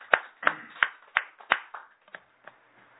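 Steady hand clapping, around eight sharp claps at an even pace, strong at first and then growing fainter and sparser toward the end, with no voices over it.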